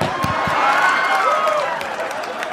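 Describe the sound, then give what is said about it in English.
An audience breaks into steady, dense clapping mixed with a few cheers, a sustained wash of applause holding at an even loudness for a couple of seconds. “I can't believe you clapped about that.”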